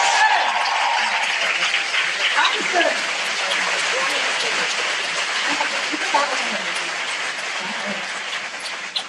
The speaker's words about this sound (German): Sehr schön. Danke für euren Mut, das war der Applaus.